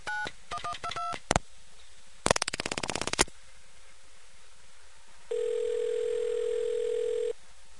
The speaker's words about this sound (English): For let's try ANAC, which is... That's a short dial tone.